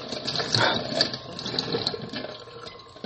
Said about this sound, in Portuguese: Ai, caraca, cara, eu não gosto quando isso acontece, quando eu tô fazendo, lavando um negócio e aí a louça resvala na quina, sabe? E a água vem que nem uma cachoeira, assim.